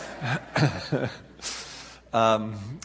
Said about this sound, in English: She's coughing now, not because of anything I'm saying. Gets her all choked up to think about this.